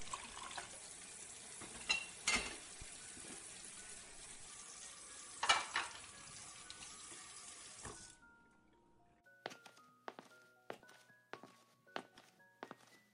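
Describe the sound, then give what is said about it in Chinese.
Water runs steadily from a tap while dishes clink and knock. Then the flow stops and a series of ringing clatters of plates and bowls being stacked follows, fairly quiet. “我去洗碗。”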